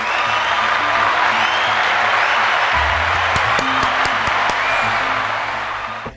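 A crowd applauds the show's host in a steady, dense wash of clapping that holds at full strength for about six seconds before easing off at the very end, with no voices.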